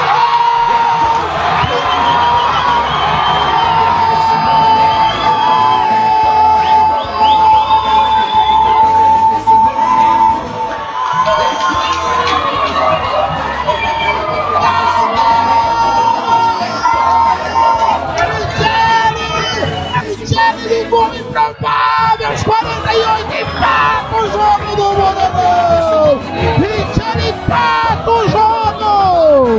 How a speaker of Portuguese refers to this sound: Lá a torcida empurra, bate palma.